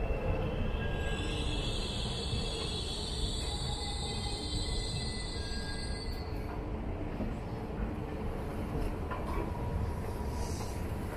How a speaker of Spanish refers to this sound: El ferrocarril de Marmaray también lo opera TCDD, la compañía turca. Y el último tren de este largo viaje es un sencillo autopropulsado urbano de la serie 32.000, que empezó a operar en 2012 tras sustituir a viejas series clásicas